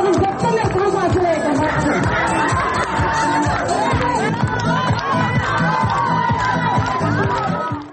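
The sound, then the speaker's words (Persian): A festive crowd celebrating Nowruz in the courtyard of a women's prison in Kyrgyzstan: many voices chattering, shouting and cheering together in a dense, lively babble that stays loud and steady throughout, with higher excited calls rising above the noise. “این آهنگی که میشنوید یا این لوشادی مربوط به جشن در حیات زندان زنان قرقیزستان است.”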